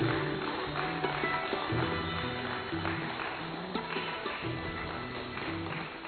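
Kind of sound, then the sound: crowd, audience clapping loudly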